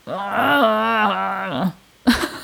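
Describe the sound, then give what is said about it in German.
A voice imitates a loud, sustained groan like fighting bears, one long strained vocal growl lasting over a second, followed by a brief pause and a short voiced burst. “So Bären im Kampf. Ja, genau. So Zweikampfbär.”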